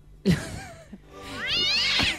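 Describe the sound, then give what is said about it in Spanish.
A cat named Winia meows twice, first a short cry and then a longer, rising, drawn-out yowl with strong harmonics, heard on its own without any talking. “con su gato Winia”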